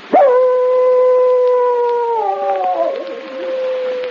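animal, dog howling

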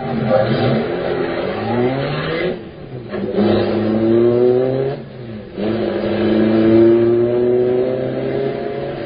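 vehicle, car accelerating away

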